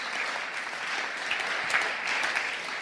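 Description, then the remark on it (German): Steady audience applause given for God, a dense wash of many hands clapping at an even, fairly loud level throughout, with no one speaking over it. “Und lass uns Gott für das einen Applaus geben.”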